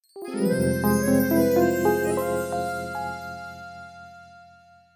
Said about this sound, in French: Et puis voilà que le téléphone sonne.